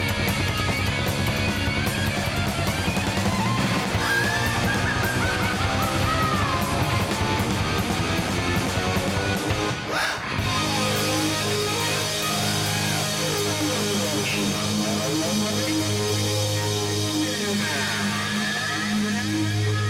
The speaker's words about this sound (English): And the big rock ending for … from ….